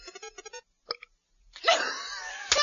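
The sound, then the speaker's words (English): A quick run of short, throaty croaks and a brief gulp lead into a man's long, loud, rumbling belch, ending in a sharp burst. “Dave, can you outdo that massive hunk of belch?”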